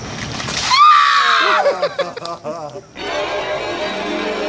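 A bucket of ice water is poured over a person doing the ALS ice bucket challenge, splashing down in a loud rush, followed by a high, wavering shriek and broken gasping cries, then another stretch of steady noise.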